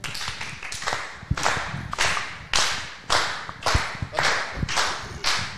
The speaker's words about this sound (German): Das Publikum klatscht mit mir im Taktapplaus, wenn du hier das Zeug aufwischst, weil du hast ja auch runtergeschmissen.